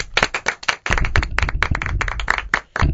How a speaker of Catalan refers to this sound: Crec que això es mereix un aplaudiment, ja que és de les poques medalles que hem aconseguit en aquesta Copa d'Europa en categoria femenina.